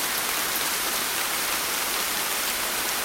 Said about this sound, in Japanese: ねえ、雨だよ。知ってた？今日雨の予報だったんだよ。